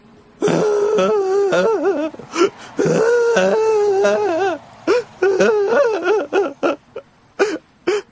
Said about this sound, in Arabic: مرحبا، هل أنت بخير؟ عفوا، لماذا تبكي؟ هل يمكننا تقديم المساعدة لك؟